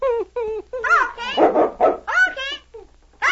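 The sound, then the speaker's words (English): A big dog named King gives a quick run of about eight loud, high yapping barks with whiny, voice-like tones, coming in an uneven rhythm with short gaps between them. “Him talk to animals. Him talk to dogs.”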